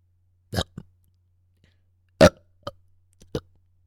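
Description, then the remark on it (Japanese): Several short, abrupt burps in an irregular series, a pair early on and then three more after a pause, fairly loud with quiet gaps between them. “連続で出たし。ほれほれ、影影。お前の大好きなゲップだぞ。”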